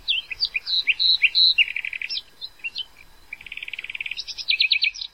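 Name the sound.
birds chirping at sunrise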